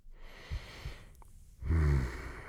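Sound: slow deep breathing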